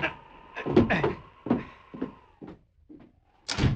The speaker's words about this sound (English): Close the door while I keep him covered.